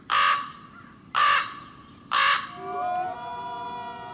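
A raven gives three loud, harsh, croaking calls, evenly spaced about a second apart, followed by a steady, sustained tonal sound with no voices.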